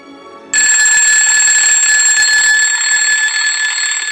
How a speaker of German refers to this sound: Es ist 6.30 Uhr. Der Wecker klingelt.